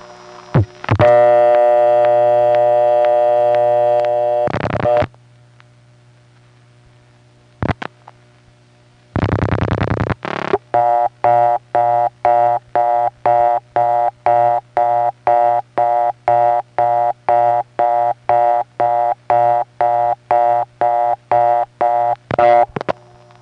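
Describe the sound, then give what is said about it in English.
A blocked-level call on a Bell System step-by-step telephone exchange: a steady buzzing tone, a pause with a click, a brief burst, then a loud, rapidly pulsing interrupted tone repeating evenly to the end. “Now, of course, if you're not familiar with what that is, that's just what happens when you hit a blocked level.”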